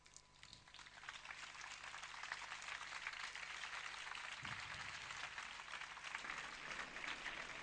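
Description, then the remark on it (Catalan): Steady, dense applause from an audience after speeches at an alabaster plaque inauguration, a thick crackle of many hands clapping that swells after the first second and holds loud and even to the end, with no voices over it. “Aplaudiments novament per aquests parlaments.”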